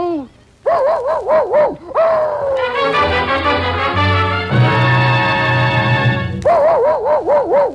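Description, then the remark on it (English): In the Columbia Workshop radio production It Shouldn't Happen to a Man, a man's voice imitates a dog with a quick run of yelping barks. A swell of orchestral music cuts in, then more rapid barks follow as it ends. “From now on, I'm going to live a dog's life.”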